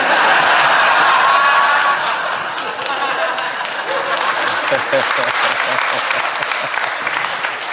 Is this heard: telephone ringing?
no